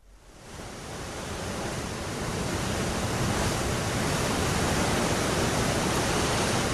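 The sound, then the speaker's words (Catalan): A steady, full roar of sea surf fades in and holds, a dense wash of waves on the shore with no talking, fairly loud and continuous without distinct individual breakers. “Ja havíem dit que començàvem amb el riu Ripoll i acabaríem també doncs, anant cap al mar, no?”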